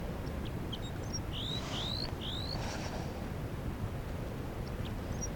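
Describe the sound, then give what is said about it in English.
Alarm calls of a newly caught captive female crossbill held in the hand, recorded back where the net is: a few short, sharp, sweeping chirps in quick succession, standing out above a steady low rumble of wind-like noise, with fainter ticks scattered around them. “That's the new captive getting alarm calls.”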